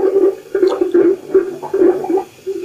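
Bubbles of heated, fermenting gas gurgle up through city sewer water to the surface in a steady run of throaty, bubbling bursts, fairly loud, with no voices.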